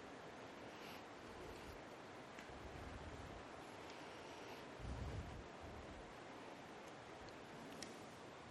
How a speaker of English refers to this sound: Another rain shower.